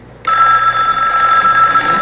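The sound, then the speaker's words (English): A telephone bell rings loudly and continuously, starting abruptly after a brief quiet moment and holding a bright, steady metallic trill throughout. “Will I get a phone call?”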